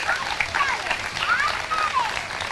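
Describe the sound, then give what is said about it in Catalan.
An audience in Roquetes applauds steadily for a few seconds for the Càritas volunteers, a dense, even wash of clapping with some brief voices or whoops rising and falling above it. “Un fort aplaudiment per tots ells.”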